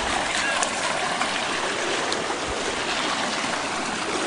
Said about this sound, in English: And the water is up all the way here on the side. And there you can see there's another one of the bridges, bridge number 3. And the water is going over that away and making new pathways.